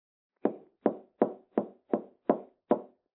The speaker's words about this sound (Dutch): Klop, klop. Daar ging de deur op.